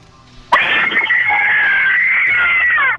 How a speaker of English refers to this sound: We'll either hang up right away if we didn't think it was that great, or keep you on hold and narrow it down for the best blood-curdling horror movie scream.